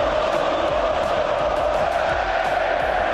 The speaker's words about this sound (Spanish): Gritos de olé, rondo de los atléticos a los madridistas, burreo, como se llama vulgarmente, a tener la pelota y exhibirse ante el equipo blanco que cayó 3-1.